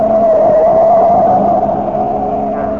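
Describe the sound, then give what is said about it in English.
A speeding car's engine roars loud in a steady, high drone, its pitch wavering slightly as it swerves on a hill road along a cliff with a 100-foot drop and nearly goes over, a wheel skipping, with a rougher rumble underneath and no voices. “I didn't see that one coming up. Boy, we almost went over. The wheel skipped.”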